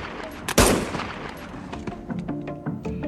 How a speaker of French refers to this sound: Ils nous ont détectés, et c'est là, notamment, j'ai été estimé que c'était impérieux pour moi, notamment, d'intervenir. J'ai tiré 3 coups de feu en direction d'un des malfaiteurs.